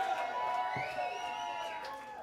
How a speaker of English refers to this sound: Ladies and gentlemen, …. One more round of applause for ….